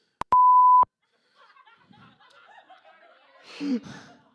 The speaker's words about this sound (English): That recording can just have a little beep.